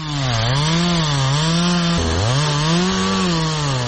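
A chainsaw held by a man runs loudly and continuously, cutting old railway sleepers; its buzzing engine pitch sags and recovers as the blade bites, with one sharp dip midway before revving back up.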